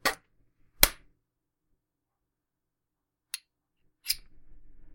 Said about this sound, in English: Sure, slapping you around is fun, but those welts fade.